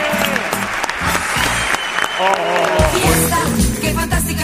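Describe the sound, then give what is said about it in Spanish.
An audience breaks into steady applause for the comedy act Grupo Risa, a dense wash of clapping that holds for several seconds, with voices and some music-like tones mixed underneath. “Un aplauso para Grupo Risa, enorme.”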